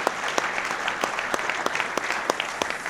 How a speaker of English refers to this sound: Operators, raise your hands. Operators, everybody give them a round of applause. They are the people that keep this alive.